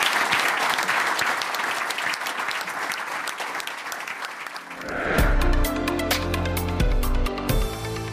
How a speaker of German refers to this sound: Großen Applaus an unsere 10 Gesellschaftsvertreter für den tollen Austausch.